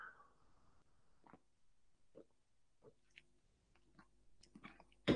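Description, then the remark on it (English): Someone quietly sips water: soft wet mouth clicks and small gulps spaced over a few seconds, ending in a brief louder bump, with no talking. “I'm going to have a sip of water.”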